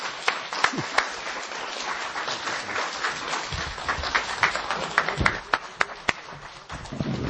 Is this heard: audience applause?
yes